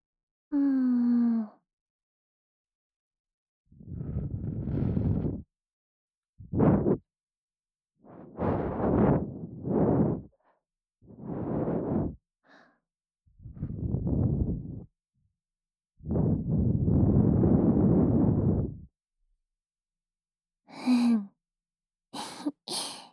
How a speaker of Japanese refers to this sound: どうですか？こういうの。生ぬるい吐息をお耳の深いところまで送り届けて、結構気持ちいいと思いませんか？いいですよ。私の吐息にこのまま甘えちゃってください。